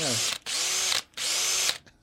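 A power drill whirs in two loud bursts of about half a second each, separated by short pauses, with a brief vocal sound at the very start.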